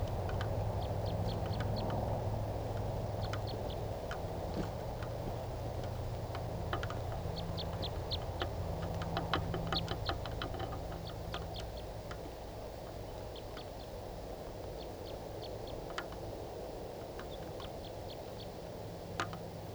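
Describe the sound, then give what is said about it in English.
A wild type 3 bird gives short, sharp, high-pitched call notes from the top of a really tall spruce tree, repeated in loose bursts throughout, fairly faint over a steady low background rumble. No one speaks. “I mean, it's been about 15 minutes and that wild type 3 bird is still calling from the top of a really tall spruce tree.”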